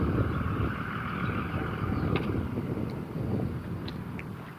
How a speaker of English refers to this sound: What is this guy doing? It's the same pickup truck.